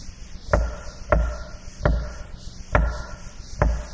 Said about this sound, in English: He stands at your door. Knocking. How will you answer?